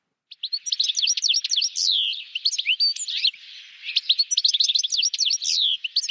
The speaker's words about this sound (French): Alors, vous avez peut-être reconnu le chardonneret élégant.